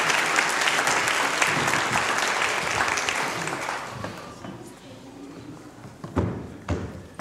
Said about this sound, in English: Give him a clap. Brilliant.